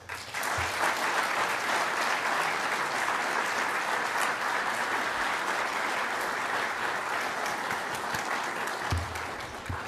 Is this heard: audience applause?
yes